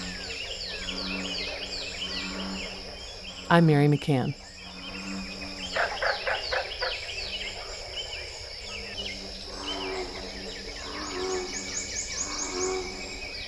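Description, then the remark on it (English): Deep, resonant bullfrog calls drone beneath bright, repeated songs of northern cardinals and prothonotary warblers in a busy outdoor chorus in the Big Thicket natural preserve, with a brief spoken voice near the start. “Let's listen again to America's Ark as bullfrogs sing alongside northern cardinals and prothonotary warblers.”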